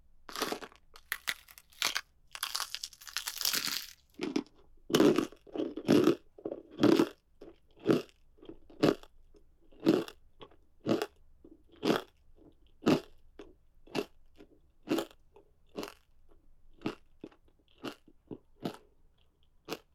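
Crunchy chewing of kneecap cartilage eaten plain: sharp, crackly crunches repeat in a steady rhythm of roughly one per second, denser and noisier at the start, then evenly spaced bites with no talking.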